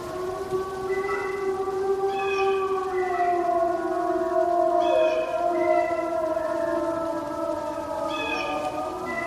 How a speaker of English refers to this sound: That's two packs of wolves converging on each other. I call it whisper howling. It's the sound they make right before they begin to howl. But watch what happens. It transforms here into the wolf sound. You'll hear a crow, and then... hear it shift?